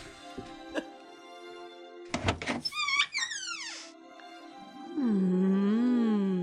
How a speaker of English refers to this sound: Gina Davis opens the door.